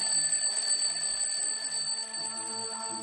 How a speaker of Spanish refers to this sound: Su mañana empieza a las 8:30, cuando suena el despertador.